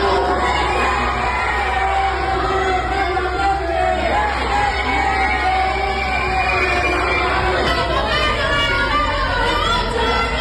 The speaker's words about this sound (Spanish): Escuchemos a continuación el ambiente en medio de insultos.